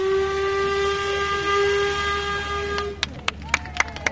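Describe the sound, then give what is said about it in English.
The whistle of an old-fashioned steamboat boarded by the Queen at the swan upping tradition in the United Kingdom blows one long, steady, reedy note for about three seconds, then cuts off, followed by a series of sharp, irregular clicks and puffs. “The Queen boards an old-fashioned steamboat, waves to the crowd, and then sets off to follow the swan uppers as they row upstream in wooden boats known as skiffs.”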